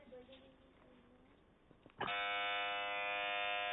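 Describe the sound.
A loud, sustained electronic quiz show buzzer, pressed hard by a contestant answering a question on a Madani Channel quiz show, blares abruptly after a moment of quieter background sound with some indistinct voices, holding steady and harsh to the end.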